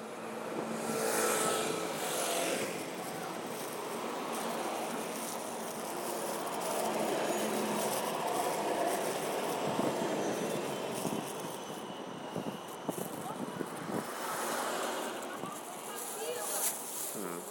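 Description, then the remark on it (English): A tram and a car pass close by on a busy street, their loud whooshes swelling at the start and again near the end over a steady traffic rumble, with faint indistinct voices. “The tram was close, but the car was closer.”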